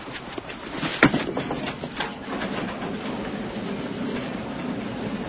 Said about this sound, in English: Gate's opening.